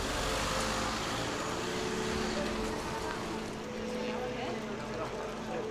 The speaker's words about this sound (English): They get into a car which drives away.